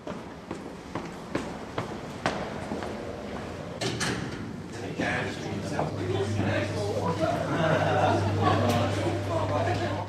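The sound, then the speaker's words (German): Restored wooden doors treated with shellac, in their original 1922 form, are opened and closed several times, giving sharp knocks and thuds in an irregular rhythm, with a low hum and murmuring voices rising in the background. “das sind die Türen”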